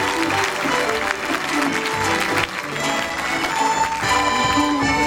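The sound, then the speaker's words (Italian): An audience applauds the first violinist, a dense wash of clapping that stays loud and continuous throughout, with faint voices and cheers mixed into the crowd noise. “pensate, la poverina, era a Santa Caterina Valburba fino alle 9:10 di mattina, è arrivata qui alle 5 dopo il peregrinato, aver fatto tutta con gli sci ai piedi, un applauso!”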